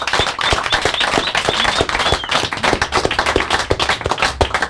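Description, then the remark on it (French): A studio audience applauds all the musicians present in the studio during the 888th Sweet Home Chicago show, a dense, steady crackle of many hands clapping with sharp individual claps standing out, sustained and fairly loud throughout, with no one speaking. “Moi je vous propose, à vous tous qui êtes dans le studio, d'applaudir à nouveau tous les musiciens aujourd'hui présents dans le studio.”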